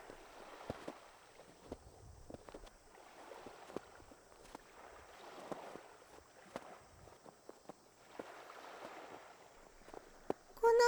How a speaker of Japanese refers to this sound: 砂がキュッキュッってなって。あなたと同じ足音、おそろい嬉しいの。